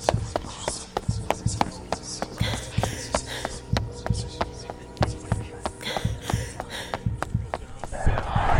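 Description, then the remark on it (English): Quick, evenly spaced footfalls of a person running from someone they believe is chasing them, fairly loud, keeping a steady rhythm for several seconds with no talking. “You were running from someone?”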